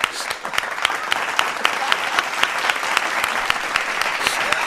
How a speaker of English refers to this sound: I'll give myself some claps.